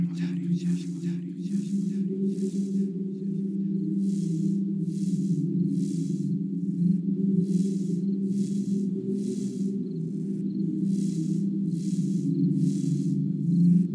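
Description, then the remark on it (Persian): Crickets chirp at night in a steady rhythm of repeated high, buzzy pulses, layered over a continuous low humming drone that stays constant throughout. “همونگاه آواز جیرجیرک ها به شب معنای زیبا بخشید.”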